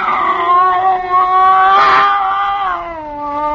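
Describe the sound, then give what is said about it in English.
A scrawny cat with its back arched yowls at a bushmaster snake by a stove aboard a ship, one long, loud, drawn-out cry, its pitch wavering up and down, with a harsher, breathy burst in the middle. No one speaks. “It was a cat.”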